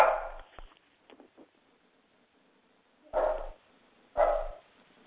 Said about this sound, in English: I have a dog barking.